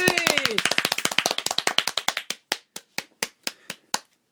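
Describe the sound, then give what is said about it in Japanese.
Rapid hand clapping from a small group that thins out and slows into a few separate, sharp claps before stopping. A voice calls out briefly over the start of the applause. “あ、だから拍手込みな。”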